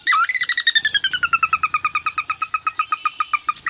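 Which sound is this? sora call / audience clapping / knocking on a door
sora call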